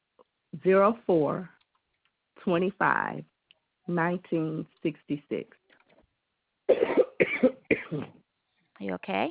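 A person coughs repeatedly in short rough bursts grouped in twos and threes, with brief pauses between the fits; a morning cough.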